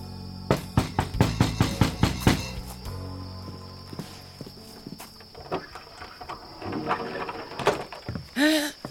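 A quick series of about nine firm knocks on the wooden door of a hut in a steady rhythm, followed by quieter rustling and shuffling, with a short vocal sound at the very end.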